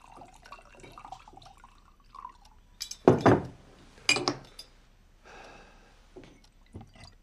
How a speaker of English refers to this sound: Tommy takes the stopper out of the decanter and pours himself a large drink.